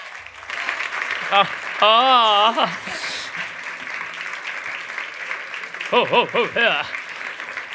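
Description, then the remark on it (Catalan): An audience at the Sitges Awards 2025 gala claps steadily and densely throughout, with wavering high-pitched whoops and cheers rising over the applause twice, once early and again near the end. “A més, aplaudiment, més aplaudiment.”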